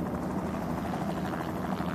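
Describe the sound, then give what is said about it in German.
A distant, steady rattling of two helicopters at 8 a.m., hovering above and heading toward a tent on the Rakiot face, buffeted by strong wind; a continuous low chopping rotor drone with a fast pulsing beat. It holds at an even loudness throughout with no voices. “Über ihnen schweben zwei Helikopter.”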